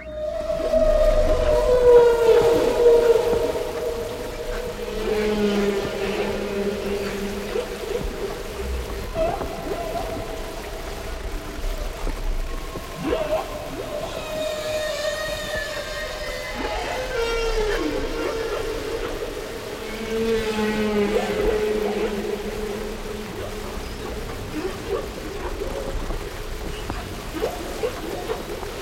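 Humpback whale song: long, wavering moans and higher rising whoops overlap and echo, sliding up and down in pitch over a steady hiss of underwater noise, with no voices.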